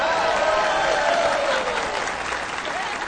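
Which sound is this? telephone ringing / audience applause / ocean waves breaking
audience applause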